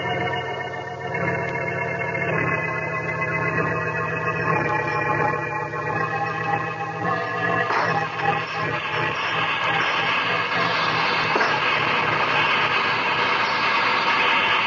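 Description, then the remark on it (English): A steam train engine on a nonstop run churns steadily and loudly, a continuous rumble with a droning hum layered over it, holding constant for the whole stretch with no voices. “Everyone thinks the regular engineer is running this engine.”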